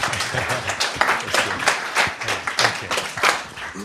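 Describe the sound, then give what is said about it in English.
An audience applauds to welcome a speaker up, many hands clapping in a dense, even patter that holds its loudness throughout without fading. “If you can just welcome him up with a round of applause.”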